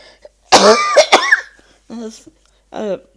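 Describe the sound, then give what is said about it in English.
A loud fit of coughing: several harsh, sharp bursts bunched together, then two shorter, raspier coughs after brief pauses. “I think someone is here, because I cough so much.”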